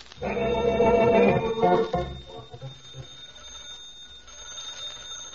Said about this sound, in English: Well, let's see. Now, we had 3 long and 1 short. So, what kind of a party would that be? 3 long, 1 short on the telephone. In the country. What kind of a party? Audience. Party line. Party line, that's it.